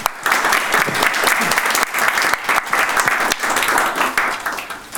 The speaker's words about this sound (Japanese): これで今回の早川明治展の講演会、記念講演会を終わりにしたいと思います。では最後に、ご講演いただいた方に拍手を最後にお願いいたします。